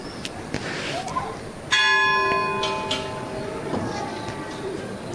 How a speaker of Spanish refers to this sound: Suena las campanas de la parroquia de San Juan Bosco.